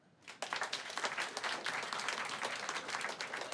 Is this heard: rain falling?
no